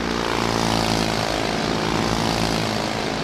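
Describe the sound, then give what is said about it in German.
A pacing motorbike engine in a motor-paced cycling race in Zurich drones loudly and steadily throughout, a dense buzzing roar with a low throbbing pulse and no pauses or voices. A man stands on the motorbike and a cyclist rides in its slipstream at 80 km/h, lap after lap. “Ein Töff, darauf stehend ein Mann, dick in Schwarz gehüllt, dahinter im Windschatten der Velofahrer.”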